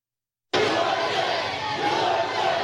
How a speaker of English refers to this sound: Thank you very much. The crowd is chanting okay. 4 more years.